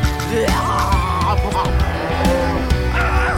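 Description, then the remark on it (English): Cows moo several times in a row, each a drawn-out, wavering low call, fairly loud over a steady, busy musical backdrop. “Milkweed sea cows!”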